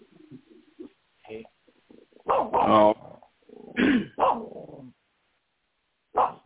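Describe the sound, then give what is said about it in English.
A dog growls low and uneven, then breaks into several sharp barks in quick bursts, pausing before one last bark at the end. No one speaks. “It sounds like your puppy wants to chime off there,”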